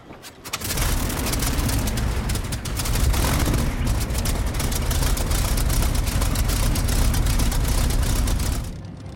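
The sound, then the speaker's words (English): The supercharged Rolls-Royce piston engine of a Spitfire 9 fighter runs loud, a steady roaring drone with rapid crackling exhaust pulses, swelling in after a brief start and cutting off near the end. “The Spitfire loaned itself to development, and almost overnight, Rolls-Royce took the engine out, stuck a great big blower on the back of it, and it was a difference in performance.”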